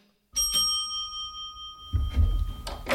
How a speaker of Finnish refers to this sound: Mä soitan ovikelloa. Joo. Nyt.